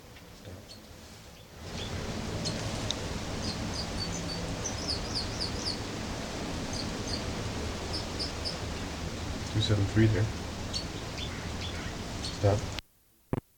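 bird song

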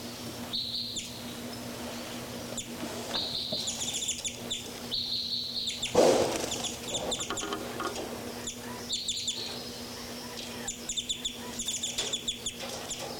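birds calling

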